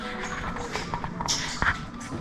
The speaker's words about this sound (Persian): صدای آب هم میاد. چقدر قشنگه